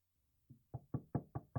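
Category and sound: household object, knocking on a door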